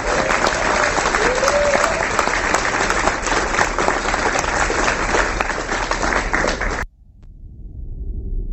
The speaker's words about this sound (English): Can we give Laura another round of applause?